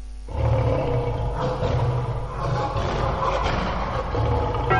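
A lion roars loudly, a deep, rumbling growl that swells and rolls on for several seconds without pause. No one speaks.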